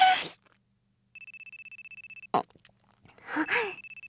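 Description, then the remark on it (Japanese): A telephone rings with an incoming call, a rapid, pulsing electronic trill in two bursts, clear, with short breathy vocal sounds before and between the rings. “電話かかってきちゃった。”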